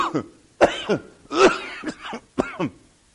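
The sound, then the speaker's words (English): A loud, exaggerated coughing fit: about six harsh, voiced hacks in quick uneven bursts, theatrical, sounding like someone acting out coughing on a first draw of smoke. “First draw that you did on that thing, what you did is you almost coughed your lungs out.”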